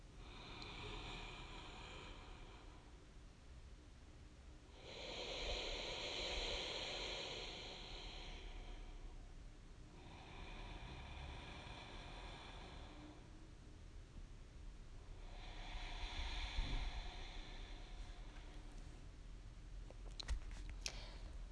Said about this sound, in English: if you've not already done so, combine the Ujjayi wave sound made by breathing with that slight constriction in the back of your throat with a long, full breath flowing into belly, ribs, and chest, and slowly back out from diaphragm, ribs, chest.